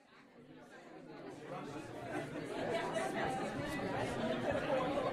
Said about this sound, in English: The crowd around me bustles. An air of eager anticipation moves throughout the room.